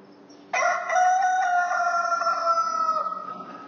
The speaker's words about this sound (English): A rooster crows. Jesus told Peter that before the rooster crowed, he would deny Jesus three times.